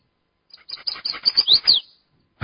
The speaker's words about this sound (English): See, here we have a chestnut-sided warbler. Chestnut-sided warbler. Okay, this guy's got some really interesting things going on. Check this out.